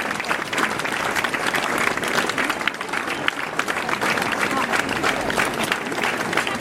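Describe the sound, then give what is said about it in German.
Sustained audience applause thanking two event organizers, a dense steady patter of many hands clapping at an even loudness throughout, with no pauses or voices standing out. “Dieser Applaus gehört euch beiden.”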